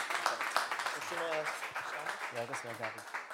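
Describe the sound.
An audience applauds with steady, dense clapping for a few seconds, while a couple of brief voiced calls or cheers rise above the crowd.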